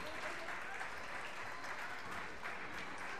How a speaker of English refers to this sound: Arcola empties their bench as their fans give a nice round of applause to their starters as they come out of the ball game.